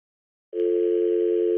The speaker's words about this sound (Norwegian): Klokken 08.00 ringte Trond Sørøys telefon.